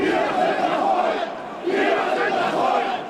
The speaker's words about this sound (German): Vom nahegelegenen Hasselbachplatz schallen plötzlich laute Geräusche herüber. Geschrei und Parolen. Hier versammeln sich hunderte Teilnehmer zu einer Demo. Sie nennen es Demo gegen den Terror. Aufgerufen haben bekannte Größen der Neonazi-Szene.